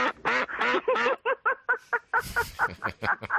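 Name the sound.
duck quacking sound effect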